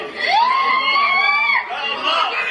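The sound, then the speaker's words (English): A woman lets out a long, high-pitched scream that rises and holds for over a second, set against loud crowd chatter and shouting voices that continue after it. “I'm leaving the audio on so you can hear her screams.”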